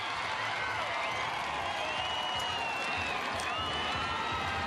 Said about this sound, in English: We're just getting some reaction in the background through our monitor of Garden Square going absolutely off. Grand Slam Oval packed to capacity. This whole precinct is full.